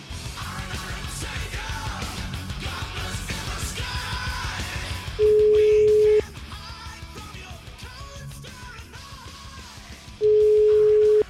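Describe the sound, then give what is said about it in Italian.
A phone call being placed by radio host Cruciani to Minutillo, Fratelli d'Italia head of the province of Forlì: two loud, steady ringback tones, each about a second long and several seconds apart, cutting over a busy, noisy background of music-like sound. “Cioè, ragazzi, dai, chiamiamolo, vai, chiamiamo, datemi sto numero di telefono, forza.”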